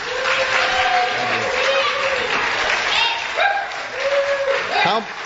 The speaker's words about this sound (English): How many people here in the audience tonight, show with your applause, believe that the United States should be significantly backing away from its military commitments around the United States? Applaud.